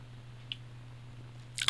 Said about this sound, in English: I got to take a sip of coffee. Can you hang on just 1 second? Okay, thanks.